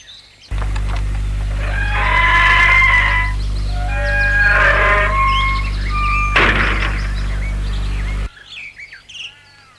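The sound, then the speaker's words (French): A man pulls a gate shut with one sharp, loud clank, while birds chirp and tweet over a steady low hum that stops abruptly soon after. “L'homme referme le portail.”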